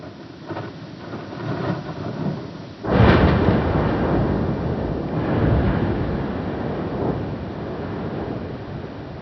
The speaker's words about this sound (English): Ice makes lots of cracking noises, which can sound quite a lot like sperm whale clicking to a computer. That's an amazing thing to be sitting listening to in an office, isn't it? Yeah. The ice cracking in Antarctica.